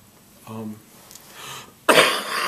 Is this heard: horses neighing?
no